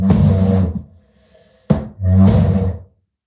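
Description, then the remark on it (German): A chair with felt underneath is pushed across the floor twice with a low, groaning drag, the second scrape starting with a sharp bump. There is a brief quiet gap between them and no talking. “Das hört sich nach rückendem Stuhl an, ja.”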